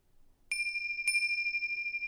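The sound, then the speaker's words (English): A bell is struck twice, about half a second apart, and its clear, high tone keeps ringing evenly afterward. It is fairly quiet, with no voices. “Sounds that come from the room, throughout the building and the street, sound of my voice, the sound of the bells.”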